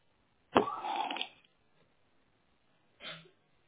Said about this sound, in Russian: Ты так в классе кашляла? А что сейчас случилось?